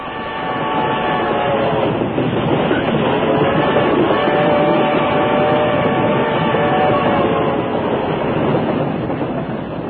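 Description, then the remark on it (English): A jolting train in 1895 rattles steadily along the tracks while Gillette tries to shave aboard with a straight-edge razor, a loud, continuous rumble with clattering and squealing tones from the wheels, unbroken throughout. “One morning in 1895, Gillette was attempting to shave with his straight-edge razor while traveling on a jolting train.”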